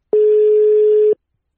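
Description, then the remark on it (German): A telephone ringing tone: one steady, mid-pitched electronic beep lasting about a second, sounding loud and alone before it cuts off into silence. “Jetzt klingelt's.”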